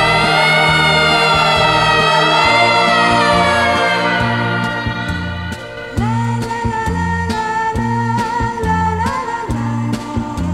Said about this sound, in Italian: Mi ricordo che il nostro discorso fu interrotto da una sirena che correva lontano chissà dove. Io ebbi paura perché sempre, quando sento questo suono, penso a qualcosa di grave.